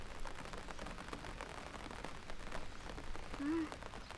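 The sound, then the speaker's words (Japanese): Steady rain patters down, a dense, even hiss of countless drops striking surfaces, with a brief faint murmur near the end. “もうお家帰る？雨強くなりそうだけど。”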